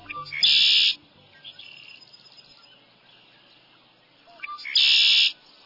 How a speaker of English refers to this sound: Let's step into this lively cattail marsh and surround ourselves with the sound of glossy black birds with bright red shoulder patches. These are male red-winged blackbirds.